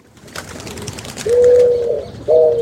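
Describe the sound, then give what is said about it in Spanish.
A pigeon coos twice, two low, steady hooting notes, following a brief stretch of soft outdoor rustling and background noise. “Una paloma se para en un cable que cruza una calle de Almagro y ve lo mismo que vio ayer cuando estuvo en una cornisa de una casa en Zárate.”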